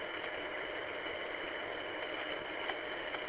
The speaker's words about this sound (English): Try to fix up the driveway a little bit, I guess. Might have a little tractor on behind, and here we go.